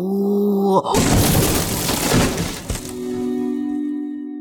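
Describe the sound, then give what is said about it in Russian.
Loud, heavy banging on a door: a rapid burst of forceful, crashing blows lasting about two seconds, set between a steady sustained tone before and after. “Дверь чуть не треснула. Кто там?”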